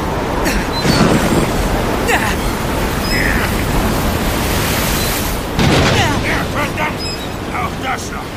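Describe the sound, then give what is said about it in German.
A rough, stormy sea in a heavy thunderstorm on the open sea roars steadily with howling wind, as heavy waves surge and crash loudly around the one-second and five-and-a-half-second marks, the churning noise never letting up. “Es erhob sich ein schwerer Gewittersturm, schwerer als ich zunächst vermuten ließ.”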